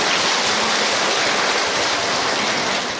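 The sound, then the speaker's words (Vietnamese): An audience at a Buddhist monk's talk breaks into sustained applause at his request, a dense, even wash of many hands clapping at once that holds steady for the full three seconds, with no voices heard. “Đúng rồi, cho một tràng pháo tay.”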